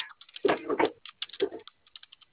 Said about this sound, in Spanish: ¿Te prende tu teclado? Sí. ¿Me puede ayudar ingresando 2525 gato, por favor? 25, 1, 5, 1, 5, y el gato.